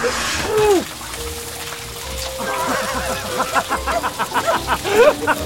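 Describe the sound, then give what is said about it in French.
Water sprays down steadily like a shower, a close, continuous hiss with spattering bursts toward the end, while short voiced exclamations and pitched sounds rise over it. “C'est la meilleure douche que j'ai jamais prise.”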